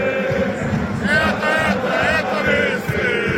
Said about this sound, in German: wird laut im Olympiastadion.